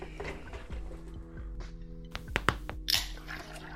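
Someone drinks the last of their juice, with a few wet gulping clicks and a short slurp near the end, over a low steady background hum.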